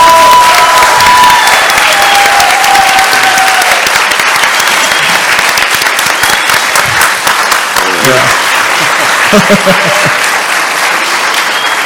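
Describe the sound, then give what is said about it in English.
Loud, sustained audience applause fills the whole stretch, another round of applause for a woman who had spoken, a dense steady wash of clapping with some cheering, while a few voices and faint whistles rise above it near the end. “So I want to give her another round of applause.”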